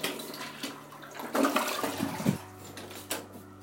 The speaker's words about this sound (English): Because I'm going to flush the toilet on this one.